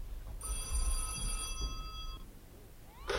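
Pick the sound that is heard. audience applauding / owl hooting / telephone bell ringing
telephone bell ringing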